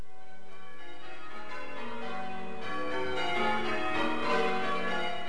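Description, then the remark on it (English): Church bells rung by bell ringers in Essex ring out in a steady overlapping peal, several bells sounding in sequence with rich lingering tones, moderately loud and continuous throughout, with no voices. “And a few weeks ago, the Essex Association of Chained Ringers organised a course which allowed bell ringers to prepare for this week's special event.”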